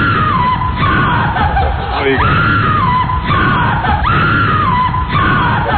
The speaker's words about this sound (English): Where's that screaming sound effect?